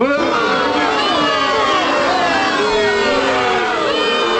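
A large baseball crowd of Oakland A's fans boos the Houston Astros loudly and continuously during their opening series in Oakland, a dense wall of overlapping voices with sustained, wavering low jeers and no pauses.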